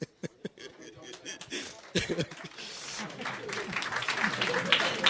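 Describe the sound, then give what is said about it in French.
An audience at a school gathering breaks into applause for a guest being introduced, starting with a few scattered claps and swelling into steady, dense clapping that grows louder toward the end, with some voices mixed in. “alors, les applaudissements.”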